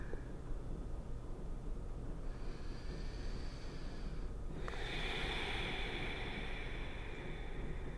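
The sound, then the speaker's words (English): Slow, deep breaths: a long airy inhale gives way to a fuller, hissing exhale, all quiet and steady over soft background noise, with no talking. “There is simply the breath. You and I breathing together right now.”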